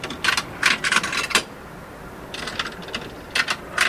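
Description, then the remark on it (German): Coins worth 11 francs are fed into a tube vending machine, a cigarette-style vending machine that dispenses tubes, in two bursts, with quick metallic clinks and rattles clustered together, a short pause between them, no voices, moderately loud. “Der Schlauchomat funktioniert dann auch gleich wie ein Zigarettenautomat. Ausser, dass man ein bisschen mehr Münze reinwerfen muss.”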